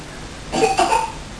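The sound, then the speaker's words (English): A young girl gives two quick coughs in close succession, a little harsh and throaty, with nothing else but faint background noise around them. “Oh dear. Are you coughing again?”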